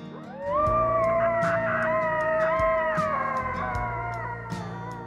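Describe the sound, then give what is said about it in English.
Several coyotes howl together in Yellowstone National Park in a sustained, overlapping chorus of high, wavering tones that slide up and down, over a low rumbling background, easing slightly toward the end. “Those are coyotes howling in Yellowstone National Park, but they're not sticking to the wilderness.”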